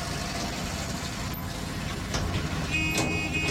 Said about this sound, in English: Don't you think we should slow down a bit for this tractor? We're all right. It's no problem with these brakes. And if we pull into the side here, they can get past quite easily.